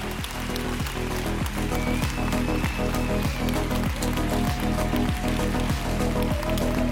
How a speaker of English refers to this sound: And all volunteers, can you please stand up, and let's give a massive round of applause for all of these volunteers. They're what made this event happen.